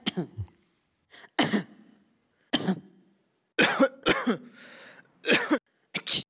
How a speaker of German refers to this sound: Aber aus Datenschutzgründen hören wir keine Menschen sprechen, sondern wir hören über Huster. Hier sind erstmal verschiedene Menschen, die husten.